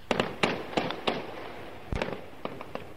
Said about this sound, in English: This is purportedly gunfire from the besieged city of Hama. It's from an amateur video that was posted today on the internet. The video could not be independently verified.